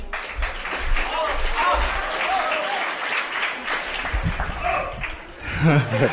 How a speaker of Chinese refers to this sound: 谢谢，感谢您的掌声鼓励 啊！